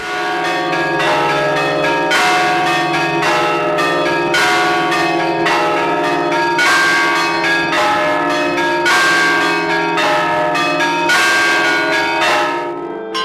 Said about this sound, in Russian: Осенью, когда высокая влажность воздуха и водяная пыль стоит, видно, как она разлетается от колокольного звона.